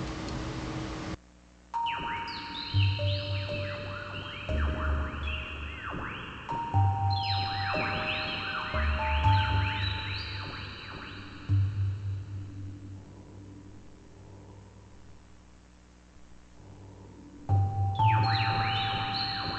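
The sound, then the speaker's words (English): The computer-generated electronic music piece "Ritual Music of Betelgeuse", a ChucK program by Slinky inspired by the Hitchhiker's Guide to the Galaxy album, played on The Chuck Show: bright, bell-like synthesized tones with echoing repeats over a pulsing low bass, entering in waves with a brief drop to near silence near the start. “And it was Slinky's second Chuck program that he ever wrote. And everybody loves this song, so I'm going to play it.”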